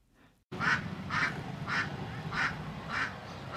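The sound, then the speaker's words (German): Geese and ducks, walking about among small children and mopeds in a neighbourhood in northern Jakarta, Indonesia, quack in a steady series of about six calls, evenly spaced, over a constant rumble of street noise. “Gänse und Enten laufen zwischen Kleinkindern und Mopeds umher.”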